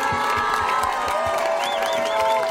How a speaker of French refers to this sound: je propose de les applaudir, de les très fort, très fort.